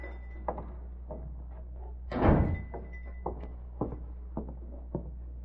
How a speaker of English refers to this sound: Uh-oh, somebody coming in the front door. Must be the shopkeeper coming back.